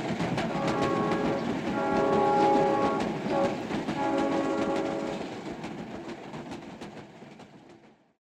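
A train rumbles past with steady clattering of wheels on track while a sustained horn blares in the middle, then the noise fades away into silence.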